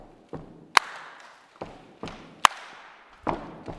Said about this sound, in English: Or maybe it's the stomp, stomp, clap.